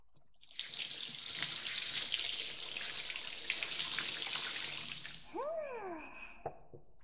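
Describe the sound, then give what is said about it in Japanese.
Hot water is poured out in a steady rush for about five seconds to rinse soap off a body in a bath, then tapers into a hollow gurgle and a couple of drips. No one speaks. “でも、お湯はたっぷりあるんやし、贅沢に使っちゃおう。ほら、体に泡がついとうよ。全部きれいにして、さっぱりしよう。”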